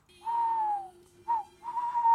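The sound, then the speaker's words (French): A male tawny owl's hoot: a long, smooth note that slides slightly down, a brief pause, a short soft note, then a drawn-out wavering hoot, clear and moderately loud over a low steady hum. “Alors, il y a la hulotte qui est très commune et qu'on entend le plus. C'est celle qui fait le...”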